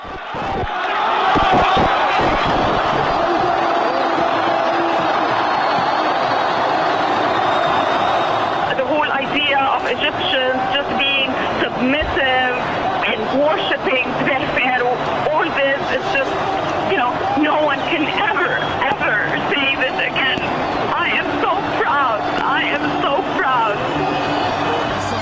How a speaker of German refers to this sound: Aufnahmen von Al Jazeera zeigen tausende Menschen auf den Straßen, teils eben noch ins Gebet versunken, springen sie auf, jubeln, schreien, weinen und umarmen sich.